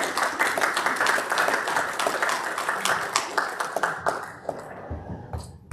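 A crowd applauds with dense, steady clapping that holds strong for about four seconds, then thins out and fades as a few last claps trail off.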